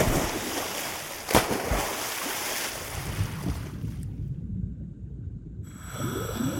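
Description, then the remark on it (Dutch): A sharp splash of a scuba diver stepping one leg forward and plunging into the Amstel river cuts through steady rushing noise. The sound then turns dull and muffled, as if heard underwater, as the diver descends, with faint bubbling toward the end. “Eén been naar voren en plons.”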